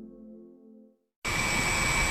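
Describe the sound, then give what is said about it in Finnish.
An electric bus coming into test use with Koiviston Auto hums with its main power on. A low, steady harmonic drone fades out, a brief silence follows, then a loud, constant whirring rush with a thin high-pitched whine sets in. “Kyllä tuo suriseva ääni on se, kun linja-autossa on päävirta päällä.”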